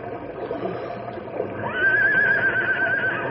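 A horse whinnies midway, a sharp rise into a high, quavering neigh that trembles for over a second before fading, over a low, steady background rumble.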